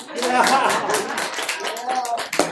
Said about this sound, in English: That's where you can clap a little bit.